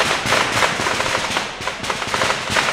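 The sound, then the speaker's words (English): A rapid barrage of fireworks launched at the federal courthouse in Portland early on a Tuesday morning, dense crackling bursts exploding in quick succession like gunfire, loud and continuous over about three seconds with no voices. “A barrage of fireworks launched at the federal courthouse in Portland early Tuesday morning.”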